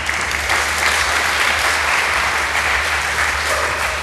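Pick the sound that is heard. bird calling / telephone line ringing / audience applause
audience applause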